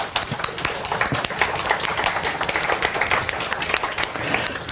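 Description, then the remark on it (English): A conference audience at QTCat applauds steadily to thank the organizers and tech staff, many hands clapping in a dense, crackling wash that holds at an even level for several seconds, with no voices rising above it. “Can we do like a quick round of applause?”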